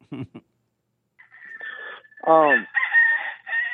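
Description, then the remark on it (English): A rooster crows in the background, a drawn-out, strained call with a harmonic burst in the middle, following a brief murmur of speech at the start. “Chicken in the back.”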